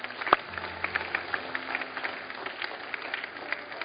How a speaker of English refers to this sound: Can we give these folks a big hand clap as they're coming?